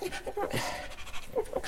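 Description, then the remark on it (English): A Chihuahua panting quickly, a steady run of short, breathy huffs with a few faint voiced squeaks mixed in, no talking. “Let's hear from you, the Chihuahua.”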